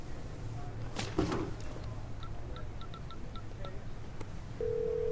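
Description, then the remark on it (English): A phone receiver clatters as it's lifted at a desk, then a quick series of about eight short touch-tone beeps dials a number, ending in a steady ringback tone. Moderately loud, with no talking. “Franklin picks up his phone.”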